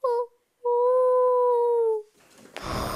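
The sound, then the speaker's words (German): A voice imitates a ghost's hoot: a quick short 'hu', then a long, steady, mid-pitched 'huuu' that drifts slightly lower before stopping, followed by faint rustling. “Ich wünsche mir Geistermusik im Radio. Geister, huhu.”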